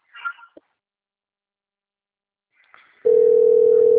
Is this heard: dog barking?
no